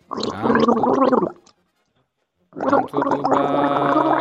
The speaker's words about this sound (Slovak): Dobre, tak poďme k tomu dôležitému, skúsme si to ešte raz spustiť, tú kloktanicu.